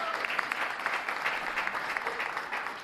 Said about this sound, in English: A round of applause to our panelists, please.